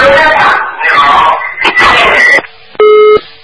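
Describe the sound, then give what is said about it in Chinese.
Muffled, noisy chatter over a phone line stops abruptly as the caller hangs up the phone, followed by a short, steady electronic beep of a busy tone as the call cuts off. “哎呀，叫他把收音机关，他把电话一关。”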